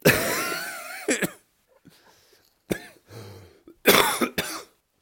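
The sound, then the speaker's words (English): A person coughs in several harsh, loud bursts: a long hacking fit at the start, a short cough midway, then a final pair of coughs, with quiet breathy pauses between. “Yeah, you can cough like you're just doing there, masking ejaculation.”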